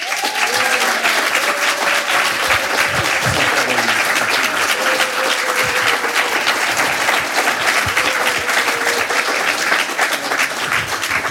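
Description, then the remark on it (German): Sustained, dense applause from an audience welcoming a guest fills the whole stretch at a steady loud level, with a few faint voices and cheers rising underneath the clapping. “Also herzlich willkommen mit einem warmherzigen Applaus,”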